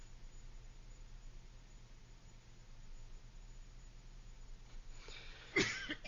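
A single short cough bursts out near the end, after several seconds of quiet hum with no talking.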